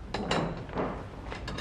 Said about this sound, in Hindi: जल्दी से तैयारी कर ले, मैं दरवाजा खोल रही हूँ।